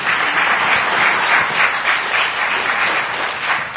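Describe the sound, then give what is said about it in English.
An audience breaks into steady applause, a dense wash of many hands clapping at once, loud and sustained for a few seconds with no one speaking over it. “Give her a great big hand clap.”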